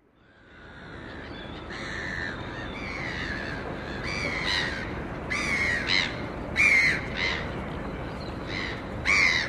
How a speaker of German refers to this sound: Einen Steinwurf entfernt von der Brandung des Atlantik zwischen Meer und den nördlichen Ausläufern des Tafelbergs steht Kapstadts nagelneues WM-Stadion. Möwen, allgegenwärtig, schreien an gegen das dumpfe Dröhnen der angrenzenden Stadt.